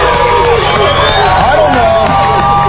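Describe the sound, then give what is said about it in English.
A dense, steady roar of a crowd in Sacramento, California, gathered for Good Morning America, Railfair 99 and the Don and Mike radio show, many voices shouting and cheering together at high volume with no pauses. “We got a crowd of people here.”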